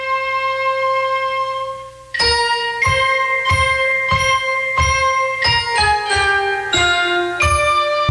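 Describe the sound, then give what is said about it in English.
A bright love song about bells and banjos ringing, heard on a radio in the film Love with a Proper Stranger, opens on a held, ringing chord, then moves into a steady run of plucked, bell-like notes with strong rhythmic strikes, loud, with no singing. “It's all about bells and banjos ringing.”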